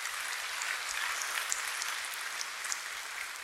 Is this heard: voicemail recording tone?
no